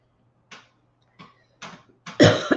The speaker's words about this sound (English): All right, let's just have the coughing not start.